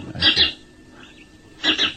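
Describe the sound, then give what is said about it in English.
House sparrow alarm notes: two harsh, scratchy chit-chit bursts, each a quick double pulse, separated by a pause of about a second, with no voices. “That is the domestic sparrow alarm note.”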